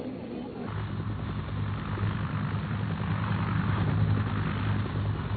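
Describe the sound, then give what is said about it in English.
Naval helicopters of the American 7th Fleet drone steadily overhead, airlifting people out of an embassy in Saigon; a continuous low engine and rotor rumble that swells in slightly after a brief quieter start and holds for several seconds, sounding muffled and lo-fi. “From midday to past midnight, a constant shuttle of naval helicopters from the American 7th Fleet airlifted out of that embassy more than 5,000 people.”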